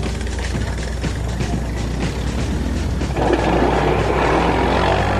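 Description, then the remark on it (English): Quad bike engines, ridden by two team members going out to a scrap heap to bring back materials, drone steadily with a buzzing, throaty tone, then swell louder and rougher partway through as they rev up. No one speaks. “Two members of each team, the scavengers, go off on quad bikes to bring back goodies from the scrap heap.”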